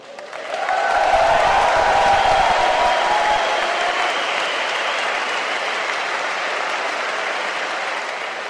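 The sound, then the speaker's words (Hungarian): A large crowd marching through the city streets and chanting "nothing about us without us" roars in a dense, steady wash of noise that swells in within the first second and stays loud throughout, with no distinct voices or rhythm standing out. “De mikor hazaértem, láttam a neten, ahogy a tömeg elindult, és csak nem körbejárta az egész várost, azt skandálva, semmit rólunk nélkülünk.”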